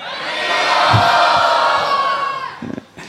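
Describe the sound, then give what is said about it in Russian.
A large crowd shouts the chant "Haribol" together in one loud, sustained roar that swells and then trails off, with a few scattered voices lingering at the end. “Всем, кому удалось сказать что-то важное, услышать что-то важное, громко крикните «Харибол».”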